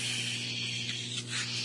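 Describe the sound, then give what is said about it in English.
A slow, steady breath pushed out through the mouth, a soft airy hiss lasting a couple of seconds, fairly quiet over a low electrical hum. “And I'm taking a deep breath in and slowly breathing out through my mouth.”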